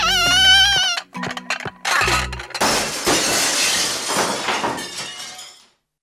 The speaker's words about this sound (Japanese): あ、 お皿お皿。 わ ー、 崩れる崩れる。